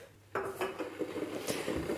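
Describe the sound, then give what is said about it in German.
Dishes clink and clatter, a run of sharp ceramic knocks and scrapes with a sustained ringing tone underneath, like cups and crockery being handled while someone makes tea; no one speaks. “Tee. Ich wollte doch einen Tee machen.”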